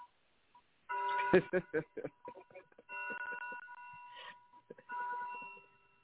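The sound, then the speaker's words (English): A chiming clock plays a short melody of bright, ringing bell tones, first a quick run of struck notes, then longer sustained chimes that fade between phrases. “But, yeah, chime clocks, I've always loved them.”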